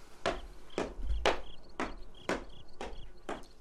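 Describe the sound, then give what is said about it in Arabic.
Knocking on a door late at night by a guest seeking the scholar, about seven firm, evenly spaced knocks at a slow, steady pace, with a faint high chirping of insects running underneath. “من الطارق؟”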